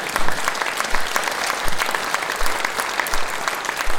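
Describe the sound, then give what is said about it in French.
An audience applauds steadily to welcome a music group at a Radio 666 afternoon event, a dense patter of many hands clapping at an even, fairly loud level with no voices standing out, lasting the whole few seconds. “L'un, c'est Laurent Picot, qu'on va applaudir ici.”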